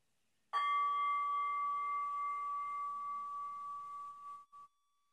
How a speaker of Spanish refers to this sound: Escucha el sonido del gong diluirse en el silencio para dar por acabado el ejercicio.